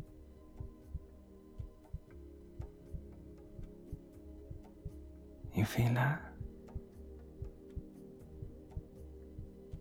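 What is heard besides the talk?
slow heartbeat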